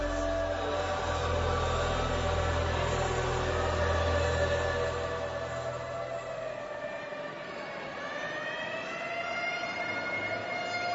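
An ambulance siren wails loudly and continuously over a low rumbling engine as the ambulance rushes to St. Eunice's Clinic in Oweri, its steady tone shifting and rising in pitch near the end as the vehicle passes.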